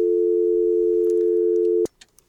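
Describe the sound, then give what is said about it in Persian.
A steady, loud telephone dial tone from a dropped caller's line on a Radio Voice of Life call-in program holds for nearly two seconds, then cuts off abruptly, followed by a few faint clicks and small noises. “تلفن ما قطع شد.”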